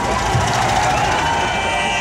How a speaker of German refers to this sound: Also hier hört man jetzt das Hupen der Autos über die Grenze fahren, die Leute klopfen auf die Autodächer, also wirklich tolle Bilder, finde ich, muss man sich unbedingt mal anschauen.